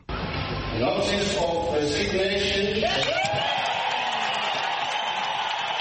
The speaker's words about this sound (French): Cris de joie et applaudissements au Parlement zimbabwéen, les députés n'ont certainement pas caché leurs sentiments à l'annonce en surprise de la démission de Robert Mugabe ce mardi, annonce faite par le président de l'Assemblée Jacob Mudenda.